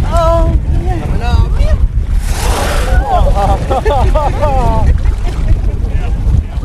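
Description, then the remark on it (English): A short, forceful whooshing blast of a whale exhaling through its blowhole right next to the boat, the blow coming out at almost 100 miles an hour, over a steady boat and wind rumble, with excited voices before and after. “They will blow right next to you. And, I mean, it's coming out at almost 100 miles an hour.”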